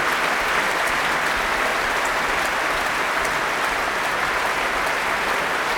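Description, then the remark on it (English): Sustained, loud applause from a concert audience of about 6,000 people as the performer returns for his third bow and the standing orchestra acknowledges it, a dense continuous crackle of clapping hands that holds steady throughout with no voices or breaks. “Thanking the orchestra, who are on their feet, acknowledging the applause.”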